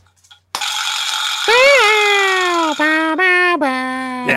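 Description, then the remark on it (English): A loud, buzzy percussive rattle, like a vibraslap, starts abruptly and keeps clattering for about four seconds. Its tone wavers and dips in pitch a few times as the rattle continues. “That thing you're thinking of? That's the vibra slap.”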